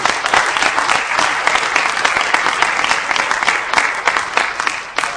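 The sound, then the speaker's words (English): A crowd breaks into sustained applause, a dense, steady wash of many hands clapping at once, loud and continuous for the full five seconds without any voices. “We need to give her a round of applause.”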